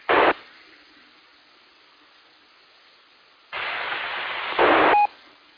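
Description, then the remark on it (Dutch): Radio static hisses throughout: a short loud burst, a long stretch of faint hiss, then a sustained loud rush of noise that swells briefly before cutting off with a short tone. “Nou hoor ik weer wat in de ruis.”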